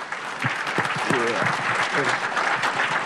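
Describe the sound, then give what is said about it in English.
A crowd breaks into steady, dense applause, many hands clapping at once in a continuous wash, with a few voices calling out briefly beneath it. “Could we give him a hand, please, man?”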